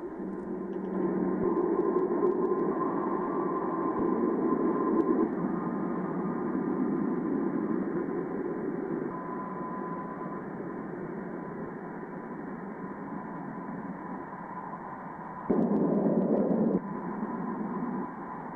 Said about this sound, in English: And I want you to please listen to it because it's spookier than hell. No, I didn't make it up. No, it isn't from a sound effects record. It's from NASA. This is actually what the sound waves off of Jupiter sound like.